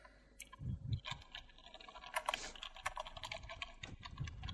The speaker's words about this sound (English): What are you typing